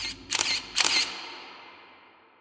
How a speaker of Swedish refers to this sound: Jeg knipser i vei med kamera. Knips, knips, knips.